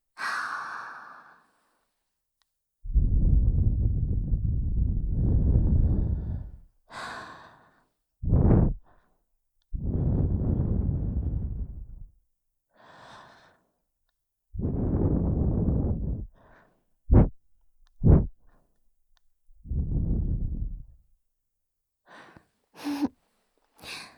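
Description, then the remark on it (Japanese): Long, breathy puffs of air blown into the ear, several drawn-out exhales alternating with short sharp bursts and gasping intakes, soft but full-bodied with no talking. “今日は炎でも氷でもない吐息を吹きかけてやるのだ。耳を吹かれている時のお前を見ているのは非常に楽しいからな。”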